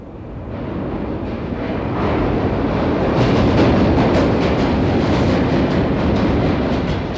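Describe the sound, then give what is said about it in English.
A New York City subway train roars into the 59th Street station, a loud, dense rumble that swells over the first few seconds and holds steady, with faint clattering of wheels on rails running through it. “We are listening to the sound of a subway train roaring into the 59th Street station.”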